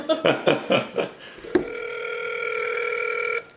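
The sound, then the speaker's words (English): Four quick beeping dial tones in a steady rhythm as someone's mother is dialed, then a click and a long, steady phone tone that holds for about two seconds before cutting off. No one speaks. “Dialing mother.”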